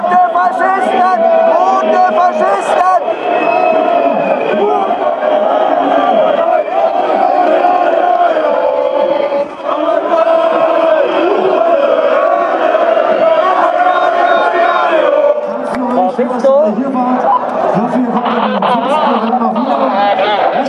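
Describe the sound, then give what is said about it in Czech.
A large crowd of thousands of demonstrators in Germany, rallying against Angela Merkel, shouts continuously, many voices blending into a loud, dense roar with rising chant-like surges, sustained without pause. “mezi těma tisíci lidma, kteří tady přišli na demonstraci, aby vyjádřili podporu stoupencům proti Angele Merkelové.”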